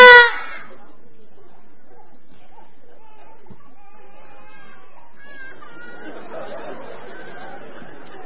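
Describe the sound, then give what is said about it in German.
A sudden loud, high-pitched shout of children's voices calling a name together on a count of three right at the start cuts off quickly, leaving faint children's chatter and murmuring, with some children crying, that grows a bit busier toward the end. “Ja, wir können das auch lassen, die ersten Kinder weinen schon.”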